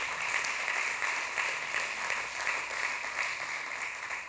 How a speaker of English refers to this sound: Let's give God a big hand clap for that. That's amazing.